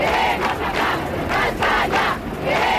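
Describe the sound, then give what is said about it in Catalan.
A large protest crowd at a demonstration in Spain, held after the kidnapping of councillor Miguel Ángel Blanco by terrorists, chants in unison: loud rhythmic shouted phrases repeating in waves, with a steady roar of many voices underneath and no single speaker standing out. “Tal día como hoy se organizaron concentraciones y manifestaciones por todo nuestro país con un grito unánime.”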